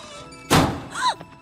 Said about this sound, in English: Lucy steps around the spilled junk and into the wardrobe. The door blows shut behind her.